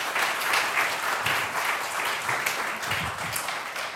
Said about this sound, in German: Ja, ich finde, das ist auch mal, glaube ich, auch mal ein kleiner Applaus wert eigentlich, ne? Oder?